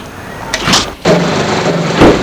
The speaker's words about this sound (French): Elle prend les deux valises qu'elle met dans le porte-bagages.